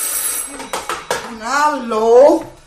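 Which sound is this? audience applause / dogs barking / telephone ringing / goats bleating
telephone ringing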